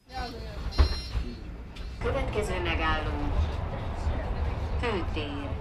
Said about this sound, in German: Der Bus hält auf dem Hauptplatz von Rákos Palota.